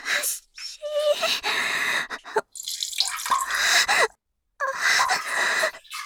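A splashing stream of urine hitting water comes in several bursts separated by brief pauses, with soft breathy gasps mixed in, as the person urinates while masturbating.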